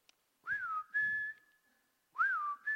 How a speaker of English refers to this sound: That's our family whistle.